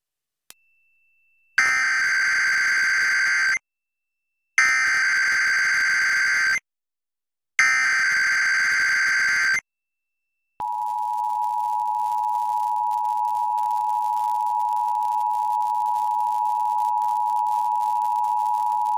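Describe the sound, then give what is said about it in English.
An emergency alert system attention tone during a test of the system: three loud, harsh digital bursts separated by short silences, then a long, steady, piercing two-note tone that holds unbroken to the end. No one speaks. “The following is a test of the emergency alert system. This is only a test.”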